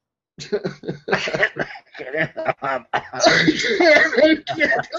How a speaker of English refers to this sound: Coughing up a lung and everything. No, that's the kind of cough when you call into work.